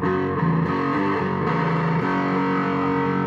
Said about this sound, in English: The polysaturator is a way over the top overdrive. 12 stages of gain, so you can.